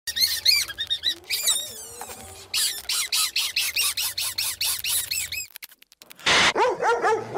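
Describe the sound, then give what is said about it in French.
A running dog barks in a rapid string of high-pitched, excited yips, loud, pausing briefly near the end before one last burst. No one speaks. “Il court ce chien là.”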